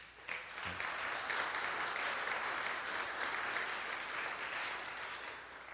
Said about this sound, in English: That's applause out of amazement for you putting up with me all the time.